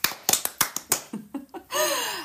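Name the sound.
brief applause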